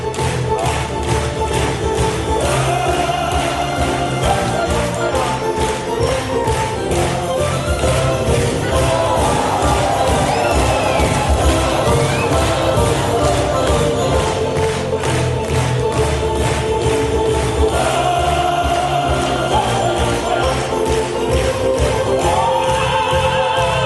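At the end of an opera concert on a Sunday afternoon in a sold-out hall in Bad Hamm, the audience applauds and cheers, a loud, dense wash of clapping that turns into a steady rhythmic beat, with shouts and faint tones rising above it, continuing unbroken for the whole stretch.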